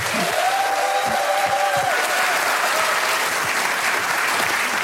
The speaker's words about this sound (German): Ich bitte euch jetzt, sie mit einem gebührenden, donnernden Applaus zu begrüßen.